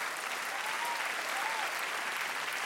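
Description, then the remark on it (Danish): A crowd of guests claps loudly and steadily, dense overlapping applause at an even level throughout, with no voices standing out. “Værsgo, råbte Tofus, og alle gæsterne klappede højt.”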